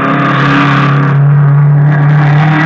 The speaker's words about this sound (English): They were racing in a low, cut-down blue car. The frame had looked familiar as it whizzed by me.